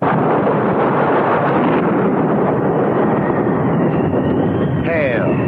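A thunderstorm roars steadily and loudly throughout, a dense wash of wind and rain noise with a deep rumble underneath and no clear pauses.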